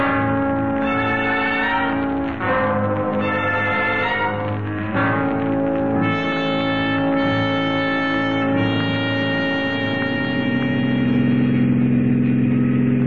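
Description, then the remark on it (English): A car engine drones steadily and loudly throughout, with a rich humming tone that swells and surges at moments as if the vehicle is accelerating while driving. No one speaks. “All right, Corbett, you don't like the way I drive? Get out.”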